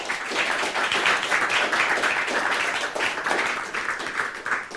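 Steady audience applause for a speaker's talk titled Patch Your Passwords, on digital privacy, a dense crackle of many hands clapping at once, holding at an even, fairly loud level throughout with no voices.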